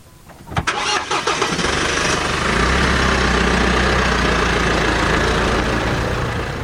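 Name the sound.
car engine starting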